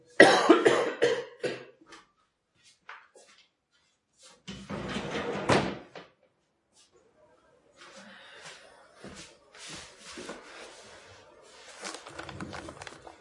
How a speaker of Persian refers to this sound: ببخشید من خیلی دارم سرفه میکنم، گفتم یه دونه پاستیل بخورم شاید بهتر بشم.